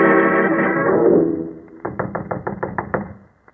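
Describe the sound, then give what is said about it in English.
A fading, sustained tonal sound gives way to a quick, steady series of about eight sharp raps on the door of Professor Roberts's cottage at Boar's Hill, each knock crisp and fairly loud, ending in silence. “Knock once more, Watson.”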